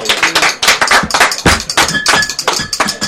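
A round of applause from a group, dense overlapping hand claps forming a steady, loud patter that carries on throughout without any talking. The applause is for someone who is leaving.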